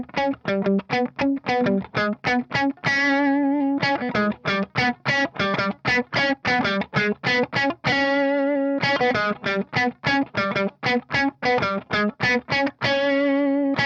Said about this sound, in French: Et toute la chanson en fait, c'est vraiment très simple, c'est... Et c'est accompagné par un riff de clavier qu'on double aussi à la guitare qui fait...